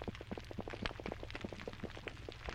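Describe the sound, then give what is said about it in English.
Dense underwater crackle of snapping shrimp on a reef, countless sharp clicks popping irregularly, over a steady low grunting hum of fish calling to each other. No voices, just a continuous busy reef soundscape. “And in the background, those are fish talking to each other.”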